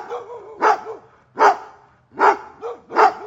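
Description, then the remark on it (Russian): A dog barks four times in a steady, spaced rhythm, each bark loud with a rough, full tone, separated by short quiet gaps and faint whining breaths. “Ворота затряслись, и снова раздался собачий лай.”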